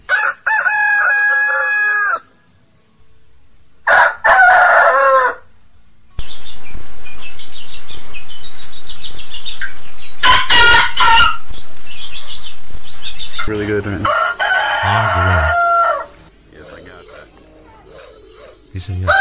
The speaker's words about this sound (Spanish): Eso es el láser que tenía. Ah, ese es el ruido del coche de Fantástico. El escáner.